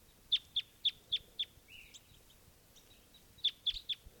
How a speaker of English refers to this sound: Flight song of a male.